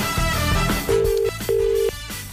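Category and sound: signal or alarm, phone call ringing tone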